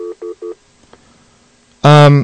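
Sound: telephone keypad tones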